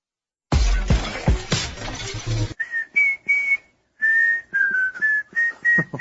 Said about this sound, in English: Okay. Let's put a stop to this whistling.